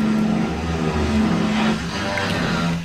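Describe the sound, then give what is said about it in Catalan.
A neighbours' power drill whirs steadily from the other side of a wall, vibrating the table, a continuous low mechanical drone with a rough buzzing edge that holds for a few seconds. “Crec que són els veïns. Pot ser la Jodi, els veïns aquí al costat. Podríem fer el podcast de Black & Decker”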